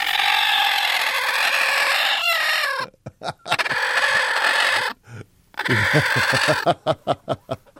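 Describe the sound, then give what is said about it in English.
A broody hen named Marilyn, feathers puffed up, makes a loud, harsh, sustained growling squawk, then breaks into a series of sharp, rhythmic clucks and short bursts, ending with several quick, evenly spaced pulses, as a hand is put into her nest box. “She puffs up her feathers, makes this noise whenever Lori puts her hand in the nest box.”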